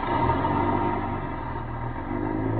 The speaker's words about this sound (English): I ducked behind a post and waited. Waited until the bus pulled out.